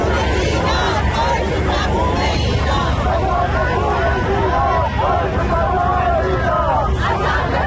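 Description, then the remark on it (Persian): A large crowd of thousands of Iranians in the United States chants in loud unison, voices rising and falling together as they repeat the name Mahsa Amini over and over, in support of nationwide protests in Iran, above a dense, steady roar of shouting. “جایی که جمعیت بزرگی از هزاران ایرانی از ایالت‌های مختلف آمریکا و همینطور از کانادا به اینجا آمدن، دور هم جمع شدن، حتی غیر ایرانی‌ها به اونها پیوستند و همه با هم نام مهسا امینی رو در حمایت از اعتراضات سراسری ایران فریاد می‌زنند و تکرار می‌کنند.”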